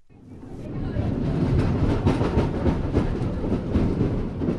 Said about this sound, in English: Anyone riding a jam-packed train like this one headed for Boston pretty much knows what they're in for. If it's rush hour, it's full-body contact. Oh, this is brutal. It's people are falling and bumping into each other.